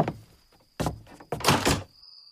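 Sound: door being opened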